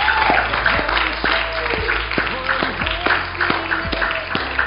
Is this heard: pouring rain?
no